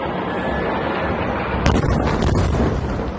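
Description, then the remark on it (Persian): Deep, continuous rumbling roar from Israeli army airstrikes on Hamas positions in the Gaza Strip, hitting a Hamas munitions and weapons production site, with a sharp, loud blast about halfway through that gives way to heavier rumbling and crackle. No voices. “تصاویری که ارتش اسرائیل از هدف قرار دادن مواضع حماس در نوار غزه منتشر کرده.”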